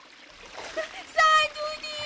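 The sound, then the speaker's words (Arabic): A single sharp splash into water as the character Batbout, fleeing attacking ants, falls into a river, followed right after by his shrill, high-pitched cry for help over a faint watery background. “ولما سقط بطبوط في النهر أخذ يصرخ حتى سمعه الأرنب وسمعته القطة”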